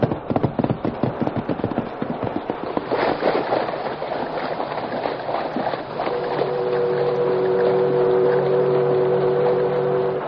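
A river boat's engine chugs in rapid, rhythmic bursts, then settles into a steady, loud drone with a sustained tonal hum as the boat passes on a deep river with a strong current.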